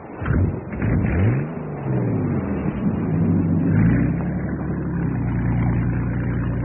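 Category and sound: vehicle, boat motor running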